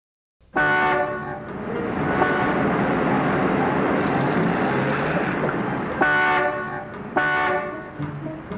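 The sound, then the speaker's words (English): Several car horns blare at once in a traffic jam, a long, sustained wall of loud honking, with sharper separate blasts near the end over a rumbling traffic background. “Will you stop honking, Mac?”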